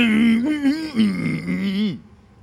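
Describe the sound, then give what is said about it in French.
A gagged young girl makes muffled, wordless mumbling for about two seconds, the pitch rising and falling like stifled speech through a gag, fairly loud, then it stops. “Tu comprends quelque chose ? Rien du tout. Bon, retire-lui son baillon.”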